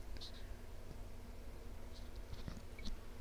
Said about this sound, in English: Okay, I had another sip there.